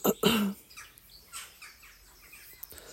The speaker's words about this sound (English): There's the crows, or it could be the rooks. Up in the big ash tree, which is slowly dying, as all the ash, well, most of the ash trees in Ireland are. But it's absolutely smothered in ivy.